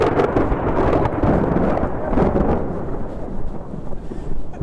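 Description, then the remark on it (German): A thunderstorm in full force at a slender steel-lattice radio tower about 150 metres high: a continuous heavy rumble of thunder rolls through the whole stretch, with dense rain hissing over it, loud with no voices. “Ist es so eine kluge Idee, wenn es gewittert, jetzt auf den Funkturm hochzugehen?”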